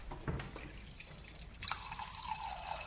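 Water pours into a wine glass in a steady, splashy trickle, with a faint tone that climbs in pitch as the glass fills over a few seconds.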